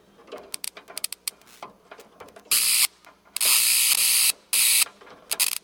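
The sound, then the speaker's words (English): A pencil pushed into an electric bug zapper as a live sound effect of a character being electrocuted in a show at the Heart of the Beast Puppet and Mask Theater: scattered small crackles and snaps, then three loud, harsh, hissing electrical zaps of roughly half a second to a second each, with no voices. “So at some point, I think Crackjaw or Tommy, one of the characters, gets electrocuted, and we're using a bug zapper that I'm just putting a pencil into.”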